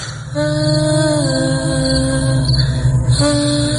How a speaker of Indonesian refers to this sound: seorang wanita seperti bersenandung. Iya, suaranya seperti bersenandung.